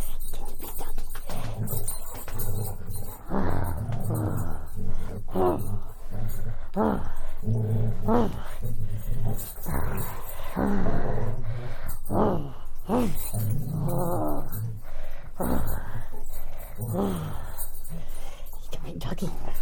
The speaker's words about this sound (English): We'll go back to playing tug. Yes, we will. Yes, we will. Okay, where's your toy? Where's your toy? No, don't you just growl at me. Go get it. Here you go. There's a good golden.